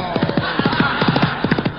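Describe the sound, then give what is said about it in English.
Horse hooves clip-clop in quick, repeated groups of hollow knocks, a brisk galloping rhythm, fairly loud over a steady background hiss. “Whoa! Aw, come on, horse boy!”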